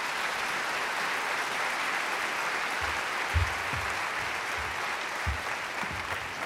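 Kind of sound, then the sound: crowd, audience round of applause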